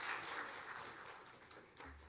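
A crowd claps steadily for about two seconds, a dense, even patter of many hands that stays fairly soft throughout, with no voices heard.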